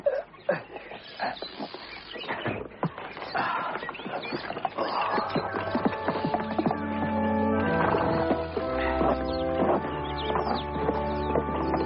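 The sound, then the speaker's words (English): Horses arriving at a church: a few seconds of uneven clattering hoof-like knocks, then a steadier stretch where sustained tonal sounds rise over the noise, moderately loud throughout, with no talking. “I'll tie up the horses for you.”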